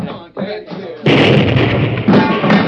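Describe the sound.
Brief voices give way to a sudden loud explosion, a heavy blast that blows a bank vault wide open, followed by a sustained rumbling roar that surges again near the end.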